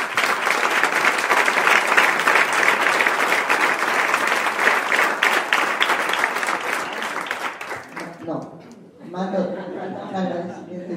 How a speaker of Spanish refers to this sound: Y esta, por fin, es una buena ocasión de agradecerlo y aplaudirlo.